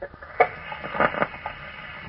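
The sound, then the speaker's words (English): Mechanical noise made by a single male Aedes albopictus mosquito: faint, irregular crackling and rustling bursts, with a few louder pops, over a steady, muffled hiss. No talking. “The mechanical noise you hear is not a defect in your radio.”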